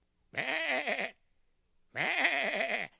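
A big black sheep bleats twice, each call a wavering, quavering baa lasting under a second, with a short pause between them and nothing else in the background.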